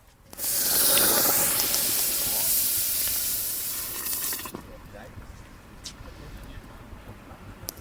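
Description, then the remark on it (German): A hot basalt stone of about 1.5 to 2 kilos, taken from the fire and plunged into brewing wort to raise it from 64 to 72 degrees, sets off a sudden, loud, broad steam hiss that roars for about four seconds, then drops to a quieter bubbling sizzle that lingers. “So klingt es, wenn man einen, ich würde mal sagen, 1,5-2 Kilo Basaltstein aus dem Feuer in die Würze steckt, um auf welche Temperatur zu kommen?”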